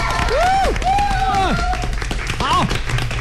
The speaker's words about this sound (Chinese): 我们最后呢这个时段呢掌声自然少不了，分贝要比刚才更高一些，好不好？掌声响起。